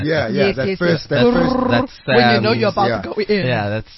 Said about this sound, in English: It's just a guy do do do do, and then I pitched it down, so it sounds a little bit weird.